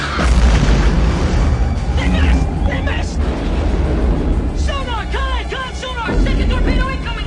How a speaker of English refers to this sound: The next torpedo strikes the second device and explodes in a huge fireball close to the Alabama, rocking and shaking her violently.